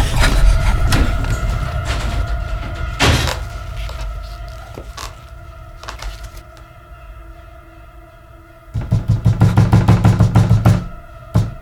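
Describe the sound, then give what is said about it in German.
Someone forces an apartment door to break in: wooden creaks, scraping and sharp knocks of a lock being worked, over a steady low hum, ending in a loud burst of rapid rattling thumps. “Plötzlich hörten die Jungs ein Geräusch an der Wohnungstür. Da will jemand einbrechen.”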